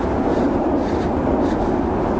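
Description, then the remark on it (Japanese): A Midosuji Line subway train rumbles steadily overhead as someone walks beneath the line, a loud, continuous low roar with a faint rhythmic clatter of wheels running through it. No one speaks. “今ガタンゴトン言ってるのは、御堂筋線の音ですね。”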